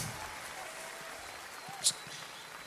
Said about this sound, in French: Je laisse le public applaudir.